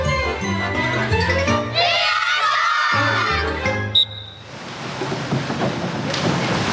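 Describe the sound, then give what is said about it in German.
A tinkling musical passage ends in a sharp impact, then a child jumps headfirst from a one-meter diving board into a swimming pool with a splash, giving way to steady, fairly loud watery rushing for the final seconds. “Platsch! Und Milka landet im Wasser.”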